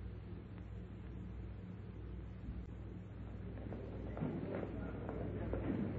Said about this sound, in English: There's the train, Doctor.